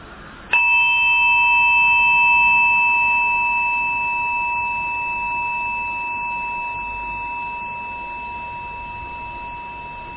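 A single meditation bell is struck once, its sharp attack settling into steady, pure ringing tones that hum on and slowly fade over about ten seconds, with no voices.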